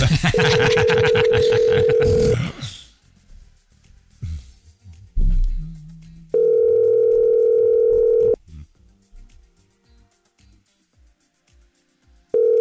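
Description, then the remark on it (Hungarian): A steady telephone ringback tone of an outgoing call to a listener sounds in loud, sustained bursts: one about two seconds, a longer one around two seconds later, and a third starting at the end, with quiet talk and noise between. “Hívjuk a nap hallgatóját.”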